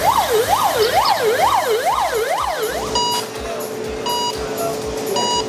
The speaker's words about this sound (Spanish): Y detrás de este sonido, que es el del quirófano, hay delicadeza, precisión y pulso.